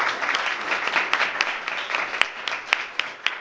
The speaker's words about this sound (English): Right next to me, John Goodwin, CEO of LEGO Foundation. A round of applause, please.